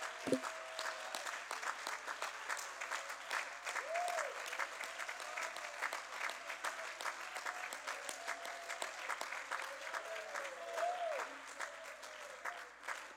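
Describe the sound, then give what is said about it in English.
An audience claps steadily and loudly throughout, applauding God, with scattered whoops and rising shouts breaking through the dense applause, a few voices calling out above the crowd. “You ought to give the Lord a hand clap and a shout.”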